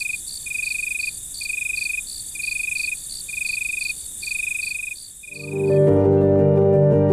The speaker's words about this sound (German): Glühwürmchen hört man nicht, aber meist sehen wir sie, wenn alles dunkel ist, während die Grillen ein leises Summen in der Nacht erzeugen.